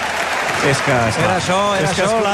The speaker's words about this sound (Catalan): És normal que l'aplaudeixi el Camp Nou, perquè se l'havia enyorat moltíssim.